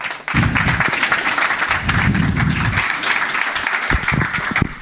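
A crowd breaks into steady applause, dense overlapping claps that stay loud and even for several seconds, with a few sharper individual claps standing out near the end.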